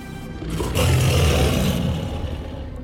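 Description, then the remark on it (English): A deep, rumbling creature growl echoing in a cave swells in after a brief pause, holds loud and throaty for over a second, then slowly trails off. No voices. “A deep growl echoed throughout the cave as the eyes inched closer.”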